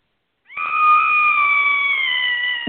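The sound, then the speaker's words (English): A single long, high-pitched, playful Halloween-style scream rings out loud, holding a steady shrill tone for about two seconds before cutting off abruptly, with no talking around it. “Pre-Halloween about scream. Like that.”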